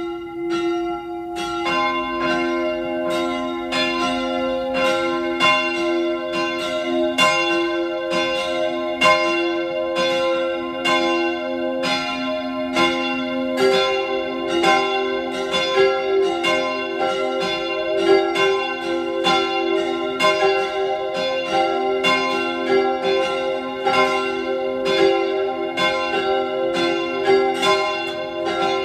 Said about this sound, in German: Es ist 12 Uhr. Sie hören die Glocken der Pfarrkirche zur heiligen Theresia vom Kinde Jesu auf der Hungerburg bei Innsbruck.